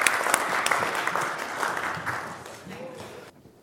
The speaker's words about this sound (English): Give yourselves a round of applause, especially the ones at the front. Fantastic.